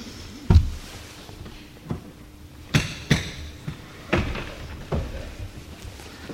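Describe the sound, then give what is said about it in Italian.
A faulty chair is shifted and adjusted, with a series of irregular wooden knocks and thumps, one heavy bang, then several lighter clunks spread over a few seconds. “Scusate, ho un problema alla sedia.”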